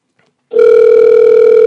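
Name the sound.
phone dial tone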